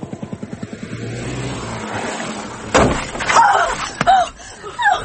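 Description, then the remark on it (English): A car engine throbs in steady rapid pulses, then a sudden loud thud of impact as a car hits a woman crossing Piccadilly, followed by agitated voices crying out. “Oh, God, she ran out in front of the car. I saw it.”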